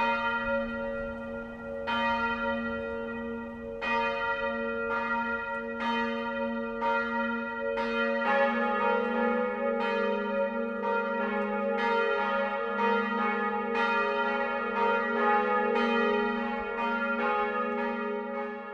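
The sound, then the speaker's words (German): Church bells of the Gothic town parish church Mariä Himmelfahrt in Eichach ring out the 12 o'clock midday peal, steady overlapping strikes with long humming resonance; a second deeper bell joins partway through, thickening the sound into a continuous full chime. “Das Mittagsläuten kommt heute von der Stadtpfarrkirche Mariä Himmelfahrt in Eichach.”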